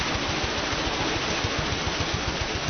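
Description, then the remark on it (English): A steady rush of churning water with a regular, low, rumbling thump beneath it from a corn mill's water wheel turning and knocking steadily. No voices are heard. “The heart of the mill, of course, is the water wheel, noisy and powerful.”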